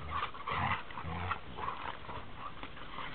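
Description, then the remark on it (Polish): Dogs growl and grumble in a continuous run of low, throaty rumbles and snorty bursts, with no one talking over them. “Kto was tworzy, drogie psy?”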